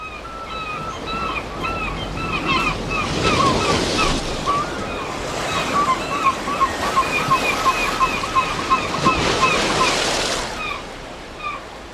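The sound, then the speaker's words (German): Waves break steadily on a beach on Norderney in a continuous rushing roar, with two louder surges of surf swelling up and washing in a few seconds apart. “Heute sind wir auf Norderney, machen einen ausgiebigen Spaziergang am Strand”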